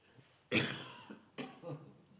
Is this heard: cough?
yes